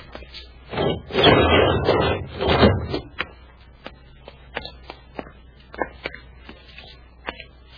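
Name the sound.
door being opened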